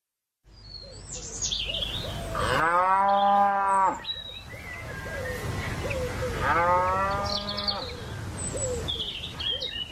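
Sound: cow mooing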